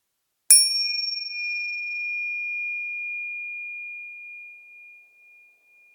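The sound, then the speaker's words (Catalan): A single small meditation bell is struck once to begin a meditation exercise, ringing out with a clear, pure tone that hangs in the air and slowly fades over several seconds in an otherwise silent space. “Quan sentis la campaneta, començarem l'exercici.”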